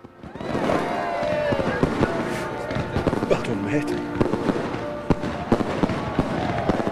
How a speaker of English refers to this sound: they both look up, teary-eyed at the fireworks display.